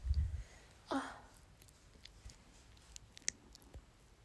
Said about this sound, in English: Oh, sorry, my stomach growled.